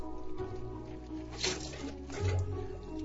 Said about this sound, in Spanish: Me sorprende que funcione. Ha pasado mucho tiempo desde la última vez. Tenemos agua. Ahora puedo lavarme las manos.